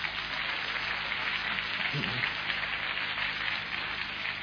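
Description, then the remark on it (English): A church audience gives a clap offering to Jesus in a dense, steady wash of clapping that holds at an even, fairly loud level for several seconds without pausing, and no clear voices stand out. “Let's give Jesus a good clap offering.”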